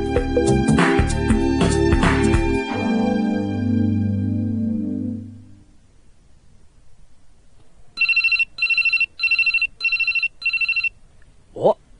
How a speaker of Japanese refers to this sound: もうお詫びの電話か？もしもし？